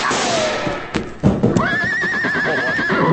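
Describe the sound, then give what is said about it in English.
A horse neighs loudly, a long shrill whinny with a wavering, trembling pitch that rises and holds before fading, over a busy background of rustling noise and a few thumps. “Well, this horse is safe now, and that means you stand to lose a fortune.”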